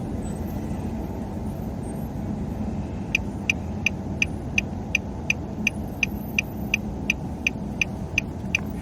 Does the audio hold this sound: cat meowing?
no